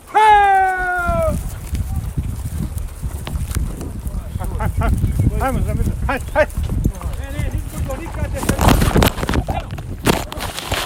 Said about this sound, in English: It's our first time riding a horse.